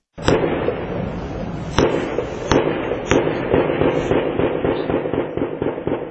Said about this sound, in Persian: صدای درگیری شدید و انفجارها در اطراف یک ساختمان در نزدیکی سرینگر، مرکز کشمیر تحت کنترل هند شنیده می شود. مقامهای امنیتی هند می گویند، به نظر می رسد که 3 یا 4 مرد مجهز با نارنجک و ماشیندار هنوز هم در داخل این ساختمان سنگر گرفتند.